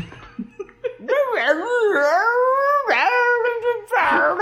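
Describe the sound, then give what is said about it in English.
A dog howls in long, wavering, whiny bursts: one rising and falling howl for a couple of seconds, a brief break, then another strained yowl, loud. “Apparently, Royal Kerry has like a retarded Scooby-Doo dog or something.”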